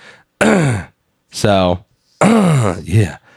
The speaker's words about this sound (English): That's me clearing my throat, but also trying to sound sexy. It's not working.